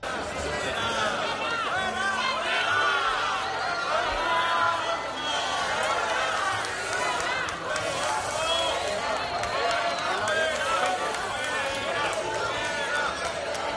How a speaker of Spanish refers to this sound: Tremendo abucheo.